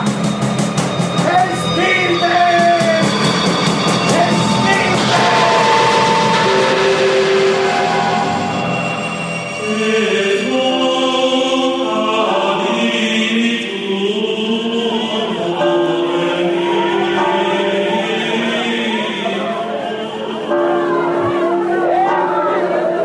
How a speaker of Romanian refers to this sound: Ai auzit? Ce aude urlă așa? Vrei să împiedici o mulțime să zbiere, Lucelai?